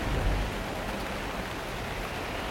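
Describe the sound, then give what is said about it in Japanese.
Steady, dense hiss of heavy rain pouring down continuously at night during a three-day storm, with a low rumbling undertone and no voices, filling the whole scene at an even, moderately loud level. “その三日目の夜も受けた牛の刻、激しい雨の中、松村の屋敷の戸を叩く者がありました。”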